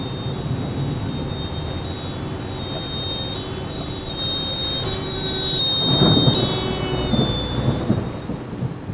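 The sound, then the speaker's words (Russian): Heavy rain hisses steadily during a thunderstorm in Bavaria while a deep roll of thunder swells up in the middle and slowly fades, with no voices present. “Tief Tim bringt heftige Regenfälle und Gewitter nach Bayern. Regen, Gewitter. Das merke ich auch so.”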